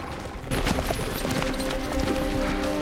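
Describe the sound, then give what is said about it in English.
Horse hooves clip-clop in a quick, irregular rhythm of sharp knocks as riders ride into a forest and come to a stop, steady in loudness over a faint background hum with no voices. “They ride into the forest and come to a stop.”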